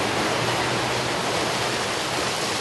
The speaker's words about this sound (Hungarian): A városban akkora felhőszakadás volt, hogy a csatorna már nem tudta elvezetni a csapadékot, az utcákon hömpölygött a víz.